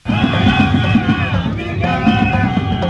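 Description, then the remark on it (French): A large crowd of protesters marching in Lomé, Togo, against the regime of President Faure Gnassingbé sings and shouts together in a loud, continuous mass of voices, with rising chant-like melodies over a dense, rhythmic rumble of tom-tom drums and castanets, in a carnival-like air. “Sur un air de carnaval, plusieurs lomés ont défilé au son de castagnettes, de tam-tam et de chansons pas toujours ordinaires, en somme, des chansons d'occasions exceptionnelles.”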